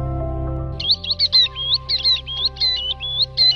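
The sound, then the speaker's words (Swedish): A tern sings a quick run of about a dozen high, thin chirping notes in a steady, bouncing rhythm, heard over a low constant hum with no talking. “Det här ljudet från den bröstade tärnan, den finns i fuktiga skogar och i närheten av vattendrag under häckningstiden.”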